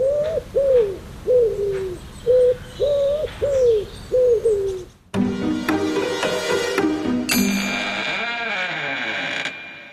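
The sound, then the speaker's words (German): A pigeon coos in a steady run of about eight soft, throaty notes, clear, before the sound cuts abruptly to a different, brighter tonal noise with a falling sweep. “Es war C. So klingt eine Taube, die gurren so, ne?”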